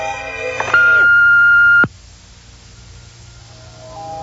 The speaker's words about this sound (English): Wait for it now. Here comes the beep.